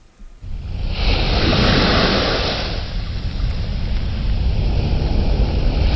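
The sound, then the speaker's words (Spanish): Sea water rushes and washes steadily over a deep, constant ship-like rumble, with a loud surging swell early on before settling into a continuous churning wash. No voices are heard. “Ascendemos desde las profundidades marinas.”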